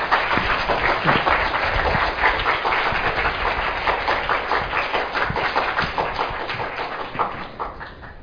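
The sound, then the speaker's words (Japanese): An audience at a gathering of Japanese Christians applauds to welcome a guest speaker, Dr. Mackintosh, who is to talk about flight in birds and insects, a dense, steady patter of many hands clapping for several seconds, loud and continuous before thinning out slightly at the end. No voices are heard. “それではマッキントッシュ先生、拍手を持ってお招きしましょう。”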